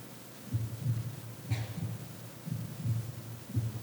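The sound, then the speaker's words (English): A muffled, low heartbeat thuds in steady lub-dub pairs, roughly one beat per second, over a faint hum. Nobody speaks. “Every single one of them has this heart beating.”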